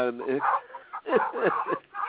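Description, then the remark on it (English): Many dogs barking in the background of a caller's phone line into a show, a rapid run of overlapping yaps and woofs with muffled voices mixed in, all sounding thin and band-limited like a phone line. “He sounds like he's been visiting Battersea's dog's home today because there's so many dogs in the background there.”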